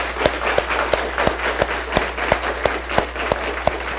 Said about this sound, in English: Gentlemen, we thank you for your service, and we are certainly grateful for those that have served our country. Let's give them a round of applause, all right?